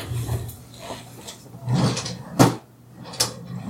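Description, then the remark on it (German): A filing cabinet drawer is pulled open and pushed shut, a few scraping slides and a sharp clunk, over a low steady hum with no voices. “Ich höre die Schublade nicht.”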